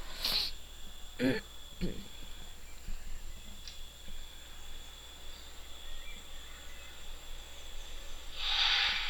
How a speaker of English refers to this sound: So, they put another cat up against the window to get that cat to hiss.